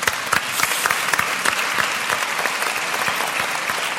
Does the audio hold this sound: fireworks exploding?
no